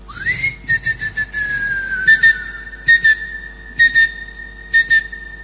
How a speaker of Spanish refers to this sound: Se están fabricando en los Estados Unidos unos llaveros que chiflan. Sí. Responden al chiflido. Claro. Uno entonces chifla. Vos los perdés y los podés buscar chiflando. Te pones a chiflar y el llavero te contesta.